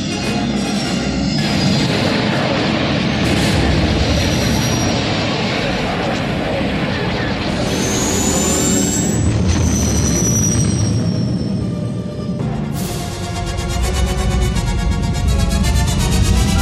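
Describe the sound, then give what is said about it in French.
A loud, sustained spaceship engine roar from a sci-fi sound effect, a dense rumbling wash with high whining tones that sweep upward midway and a harsher surge near the end. “on a toujours tendance à mettre beaucoup trop de son dans les films de science-fiction qui se passent dans l'espace”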